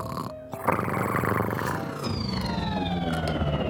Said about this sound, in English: That's a strange noise. I've never heard a cat snore that sounds like a spaceship. Wait a minute, that's a real spaceship!